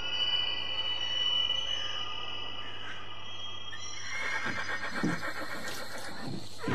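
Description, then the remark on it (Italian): A horse whinnies, a drawn-out, quavering neigh with shaky, breathy bursts near the end, heard over a steady background hum with no talking. “Bellissimo questo cavallo”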